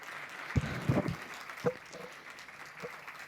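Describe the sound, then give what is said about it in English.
Sparse, scattered applause from an audience at the end of a speaker's presentation: a handful of soft claps clustered early, then a few isolated ones trailing off over a quiet background, with no voices. “Thank you. Applause.”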